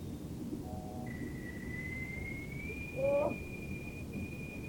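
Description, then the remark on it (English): A whistling kettle gives a thin, steady high whistle that creeps slightly upward in pitch and holds without a break over a low rumbling background, with a brief lower tone sounding midway. “You forgot to take the kettle off, lady.”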